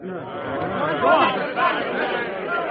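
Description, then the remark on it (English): Angry crowd chatter in Ireland, aimed at a carriage galloping up Westmoreland: many overlapping voices shouting and murmuring at once, a steady loud din with swells of raised, jeering voices and no single clear speaker. “The crowd's giving him an angry time.”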